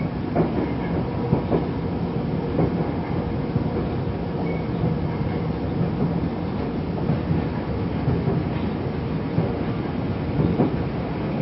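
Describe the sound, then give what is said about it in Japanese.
A train rolls along the rails, arriving at Kyoto station in Japan, with a steady rumble and faint rhythmic clacks from the wheels, continuous throughout with no one speaking. “京都でございます。 JR 線はお乗り換えください。ホームと電車の間広く空いております。”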